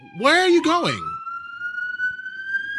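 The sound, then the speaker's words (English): A police siren wails through a New York city street, first sweeping up and down in quick warbles, then holding a long, steadily rising tone over low traffic rumble. “The sounds of sirens, where are you going?”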